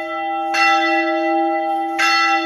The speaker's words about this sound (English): The bells of Al-Tahira Church ring out across Mosul, a symbol of the rebirth of the old city that was left devastated 8 years ago after the battle to drive ISIS out.